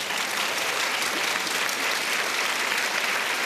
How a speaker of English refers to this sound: Can you join me in giving them a round of applause?